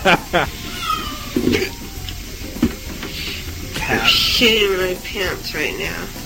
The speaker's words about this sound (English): That's my kitty cat. She's very confused.